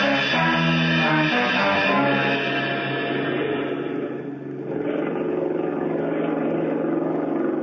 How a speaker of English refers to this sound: No, better sit here where we can hear that outboard motor. It might cut off.